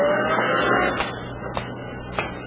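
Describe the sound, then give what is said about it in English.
A heavy truck rumbles past on a street, its broad engine noise swelling and then easing off, with a few sharp clanks along the way. No one speaks. “You see, Alice, you're on my mind so much you've got me disputing the right of way with trucks.”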